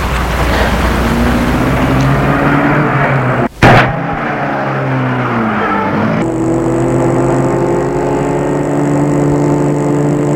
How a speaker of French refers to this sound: Il les mène à sa voiture, les fait entrer et met la voiture en route.